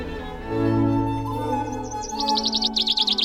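A bird sings, starting with a few scattered chirps and building into a quick, repeated trilling phrase, heard over soft sustained background tones with no talking.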